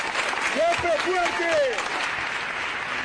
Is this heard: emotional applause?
yes